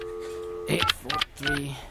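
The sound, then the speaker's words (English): A touch-tone phone number is being dialed, opening with a steady electronic tone before a voice cuts in over it. The tones sound fairly loud. “Yeah, just be quiet, man. I got to make this call, okay?”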